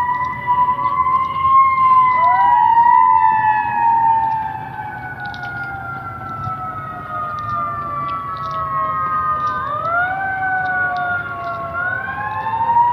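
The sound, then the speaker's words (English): Wailing fire truck sirens rise and fall in long sweeping tones over a low engine rumble in the morning, loud at first and then slightly fainter as the vehicles pass by. “I believe those are fire trucks.”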